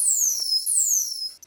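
The recorded signature whistle of a dolphin named Allie, recorded by researcher Jason Bruck and played through an underwater speaker to the dolphin Bailey, plays twice in a row. Each is a high, clear tone sweeping downward, loud and steady, with faint low noise beneath and no voices.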